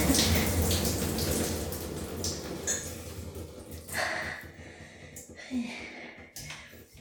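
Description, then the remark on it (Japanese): Steady hissing spray of shower water runs for several seconds, broad and continuous, with a few brief splashes and breathy sounds near the end. “シャワーでお願いします。”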